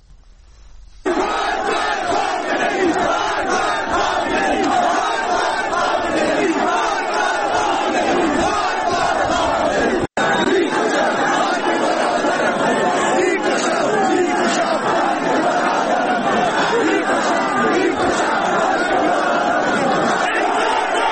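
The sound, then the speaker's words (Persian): A large crowd of protesters in the streets of Zahedan, Iran, chants and shouts, a dense, continuous roar of many voices that stays loud throughout, with one brief break midway. “این صدای مردم زاهدان هست در خیابان‌های این شهر که تظاهرات کردند، دست به اعتراض زدند.”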